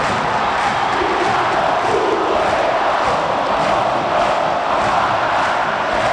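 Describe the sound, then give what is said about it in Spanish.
A stadium crowd roars in celebration of Marcelo Moreno Martín's equalising goal, making it 1-1: a loud, sustained wall of cheering and shouting that holds steady for several seconds without letting up. “El abrazo hasta el banco donde está Chiqui Arce. Escuchen el grito.”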